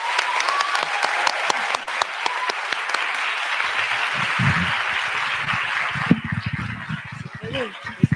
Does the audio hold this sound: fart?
no